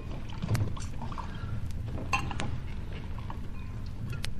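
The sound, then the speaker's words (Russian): Drinks being poured for a toast to someone's health, a low gurgling splash of liquid running throughout, broken by a few sharp, bright clinks of glass. No one speaks. “Слушай, выпьем за его здоровье, наливай.”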